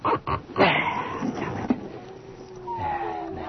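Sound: dogs barking and whimpering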